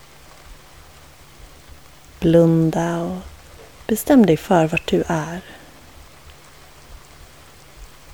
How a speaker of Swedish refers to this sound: Tänk dig nu att du sitter i ett tält, under ett plåttak eller inne, varför inte i en bil. Någonstans där du kan höra regnets smatter.